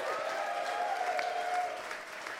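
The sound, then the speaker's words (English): An audience at a festival gives a steady, dense round of applause to thank the organisers from the Little Dum Dum Club. It holds at an even, moderately loud level for a couple of seconds, with a faint tonal hum running underneath. “And before we go, one final note, we'd just like to say a massive round of applause for and a big thank you to”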